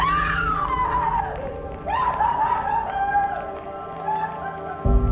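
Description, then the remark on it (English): A woman in a mental hospital screams while being carried away, in long, drawn-out wails that rise and fall in pitch, loud, with barely a break across the whole stretch. “A screaming woman is carried away”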